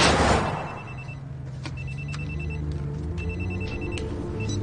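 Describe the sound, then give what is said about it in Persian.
Grayson's telephone rings in short repeated electronic bursts with brief pauses between them, clear and moderately loud over a steady low rumble, with no one speaking. “گریسون تلفنتو جواب بدیم بد نیست.”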